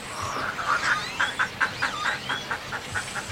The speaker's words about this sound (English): This tiny island in Laguna Madre, Texas, is a protected rookery and home to more than 400 species of birds, including white ibis, black-crowned night herons, as well as great blue ones, reddish egrets, and roseate spoonbills.